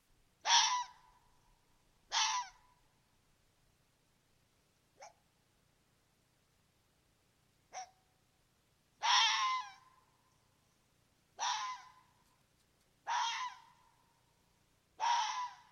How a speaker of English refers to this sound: It's sort of their bark, even though it doesn't really sound so much like a bark, but here is a recording of a red fox vocalizing now.